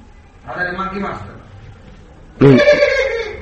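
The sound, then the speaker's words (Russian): A person mimics a donkey's bray with two strained, nasal vocal bursts, the second louder and harsher with wavering pitch, separated by a brief pause. “Все говорят, как ослики, да?”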